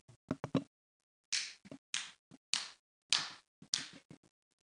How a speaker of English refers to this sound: and when they say to clap, you got to make sure that you clap just right. Well, let me see if I can do this.